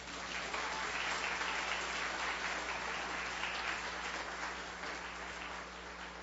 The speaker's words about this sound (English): So please give her some applause.